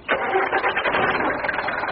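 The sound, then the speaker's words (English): A taxi's engine cranks and catches, then settles into a steady rumbling idle that continues loudly for a couple of seconds with no talking. “Get in the taxi. Next time, step carefully. We're sensitive as well as powerful. Engine.”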